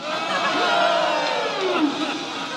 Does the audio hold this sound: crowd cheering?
yes